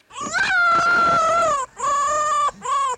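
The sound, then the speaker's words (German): A fox lets out three drawn-out, whining cries, the first long and steady, the next shorter, and a brief final one, loud with no other sounds. “Das ist kein Hund, das ist ein Fuchs.”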